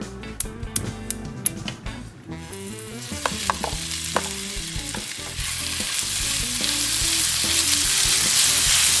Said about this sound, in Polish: Na samym początku na naszej drugiej patelni wylądował kurczak. Ile go tak mniej więcej będziemy smażyć? Będziemy go smażyć przez kilka minut, aż osiągnie złocisty kolor.